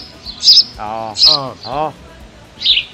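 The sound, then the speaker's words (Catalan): A house sparrow chirps several times in quick, uneven succession, bright, with sharp high peeps between fuller, buzzy calls. “Bé, avui també és el Dia Mundial del Pardal, el Gorrión.”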